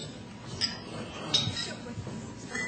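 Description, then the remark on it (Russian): Glasses clink together a couple of times in a toast, bright short chimes that ring out over murmuring voices and room noise, moderately loud. “И давайте выпьем за Галину Борисовну и за следующие 50 лет”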